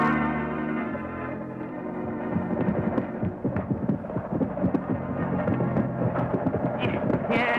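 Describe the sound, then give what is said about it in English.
Rapid rhythmic hoofbeats of two or three horses approaching from the left drum steadily over a sustained ringing, bell-like tone, growing busier, with no voices heard. “Somebody coming over to the left there. Two or three horses.”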